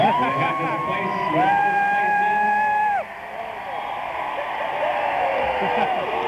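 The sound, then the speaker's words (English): A large crowd lets out a steady wave of booing at the speaker for calling the place the middle of nowhere, many drawn-out voices overlapping at once, loud and continuous for several seconds with a brief dip partway through. “Hey, for those of you booing at me saying that, I used to live in a place like in the middle of fucking nowhere, so you know, you can't really come down to me from that.”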